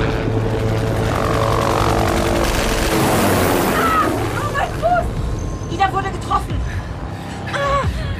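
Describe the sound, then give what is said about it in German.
An attacking helicopter's steady droning engine and rotor hum swells into a loud rushing pass overhead as it turns before it can shoot again, then lingers in the background while people talk. “Der Hubschrauber muss drehen, bevor er wieder schießen kann.”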